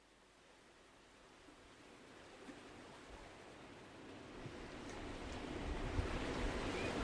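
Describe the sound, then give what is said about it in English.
Waves wash onto the beach at Silver Strand in a steady, hissing roar that swells gradually louder over several seconds. No voices, just the continuous surf. “Just arrived at Silver Strand.”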